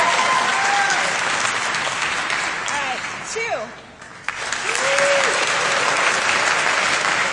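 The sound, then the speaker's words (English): A crowd claps steadily in a dense, noisy wash of applause, with scattered whoops and voices rising above it; the clapping dips briefly midway before swelling back to full strength. The clapping is a vote for entry number one in a jaunty tinfoil hat contest. “All right, so with clapping, number one.”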